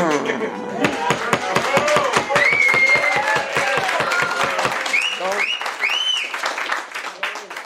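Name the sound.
audience applauding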